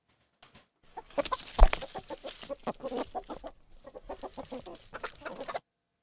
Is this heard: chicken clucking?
yes